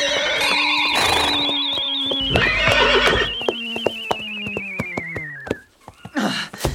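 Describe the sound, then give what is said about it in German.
A loud pony whinny rings out with a long, descending harmonic neigh lasting several seconds as two ponies galloping at night toward the edge of a gravel pit are brought to a stop, with clattering hoofbeats that slow and fade toward the end. “Er will sie überholen, um die Ponys zu stoppen.”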